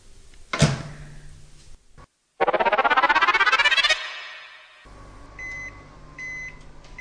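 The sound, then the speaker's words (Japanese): A 600-watt microwave oven heating spaghetti in water in an uncovered container for six minutes: a door thuds shut, a loud rising whir as it starts, then a low steady hum with a few high electronic beeps repeating. No one speaks. “600ワットのレンジに茹で時間が3分のスパゲティなので、プラス3分で6分かけてみます。”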